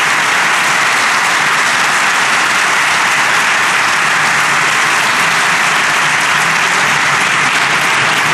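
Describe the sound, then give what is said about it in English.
Sustained, loud applause from a large audience at the Buenos Aires Stock Exchange in Argentina, welcoming the US Vice President and the Second Lady of the United States; a dense wash of clapping that holds steady for several seconds without any voices breaking through. “In fact, with that rousing round of applause, would you mind welcoming my wife of 32 years, the Second Lady of the United States of America?”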